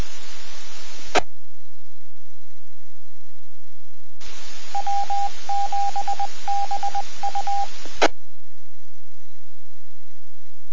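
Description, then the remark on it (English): Two bursts of hissing radio static from a radio transmitter, each cut off by a sharp microphone click; the longer second burst carries a quick series of touch-tone beeps. No one speaks. “sure if that was a mic click or my own mistake.”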